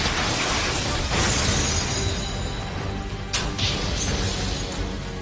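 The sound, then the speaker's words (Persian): Several spinning battle tops in a three-way battle burst apart at the same time in a loud, dense clatter, with a couple of sharp cracking impacts standing out over a constant roar of grinding and rattling. “انفجار، انفجار و بازم انفجار. همه فرفرها همزمان منفجر شدن.”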